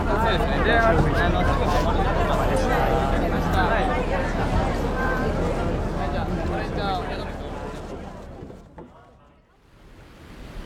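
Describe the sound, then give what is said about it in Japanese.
A busy crowd of people awaiting the arrival of the Ogasawara Maru ferry, which arrives once every six days, murmurs and chatters at the harbor, with a steady wash like surf or wind underneath; the hubbub stays loud, then thins out and quiets near the end. “到着を待ちわびた人々で港はにぎわいます。”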